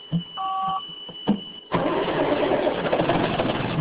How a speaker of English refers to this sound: swivels inside the beeping, blinking cockpit of the family Ponzi, a logging machine with a robotic arm.